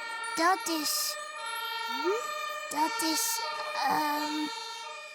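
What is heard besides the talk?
ambulance siren wailing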